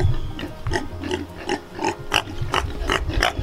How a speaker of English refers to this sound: So yesterday we noticed that our pigs were starting to develop a cough. Some of them had a short wheeze.